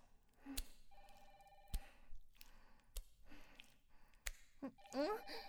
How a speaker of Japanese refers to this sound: 電話だ